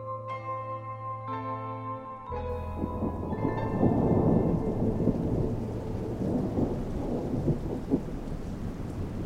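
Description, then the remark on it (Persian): After a brief sustained musical tone, a thunderstorm surges in: dense, steady rain with deep rolling thunder rumbling continuously and loudly throughout, no voices present. “در طوفان چیست که مرا چنین به جنبش می آورد؟”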